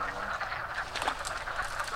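A chorus of male wood frogs giving mating calls in vernal pools: many overlapping, duck-like clucking croaks rattling on continuously at a steady level.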